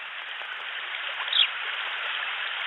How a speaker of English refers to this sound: It was at this field where I heard water.